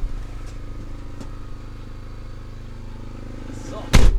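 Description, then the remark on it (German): A camper van door shuts with one sharp, solid thud near the end, cutting through a steady low droning hum from a running generator that fills the whole clip. The camper van stands on a remote plot of land on the island of Mallorca. “Ich glaube, man kann das deutlich wahrnehmen und ich werde jetzt erstmal die Tür schließen vom Wohnmobil, in dem ich gerade sitze, auf einem einsamen Grundstück auf der Insel Mallorca, damit es ein bisschen weniger blubbert im Hintergrund.”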